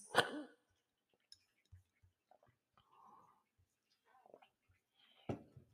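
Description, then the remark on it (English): Two sharp, loud hiccups, one at the start and one near the end, with a few faint clicks and breathy noises in the quiet stretch between them. No speech. “Why am I having hiccups like this?”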